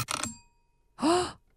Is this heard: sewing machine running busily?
no